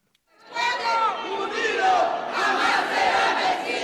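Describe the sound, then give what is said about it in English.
Several dozen immigrants rally shoulder to shoulder inside the New York state capitol in Albany over immigration issues, shouting and chanting together in a loud, sustained roar, with many overlapping calls rising and falling without pause. “Several dozen immigrants are rallying shoulder to shoulder inside the state capitol in Albany.”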